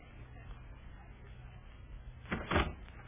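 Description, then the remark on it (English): A front door opens with a short burst of rattling and clunking near the end, over a steady low background hum. “Is that the front door? Yes. Yes, it's just the front door.”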